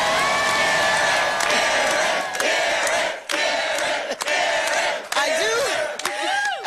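raucous crowd cheering

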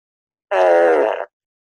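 fart

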